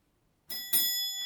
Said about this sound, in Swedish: Får du besök, Emil? Ringer på dörr.